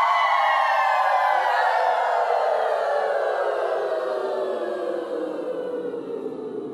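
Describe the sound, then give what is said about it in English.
A group of voices imitates a siren together, repeating the siren one more time, sustaining one long sliding tone that glides slowly downward in pitch and stays loud throughout before easing off slightly at the end. “Let's do that one siren one more time.”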